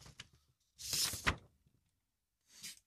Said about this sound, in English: the noises made by the doors are actually the sound of an A4 piece of paper being removed from an envelope